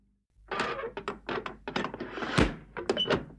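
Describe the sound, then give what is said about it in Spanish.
A key rattles and clicks in a lock, then the latch gives and a door swings open with a soft thunk, with no one talking. “Abriré civilizadamente con esta llave, pero si no me deja entrar, le juro que voy a derribar la puerta.”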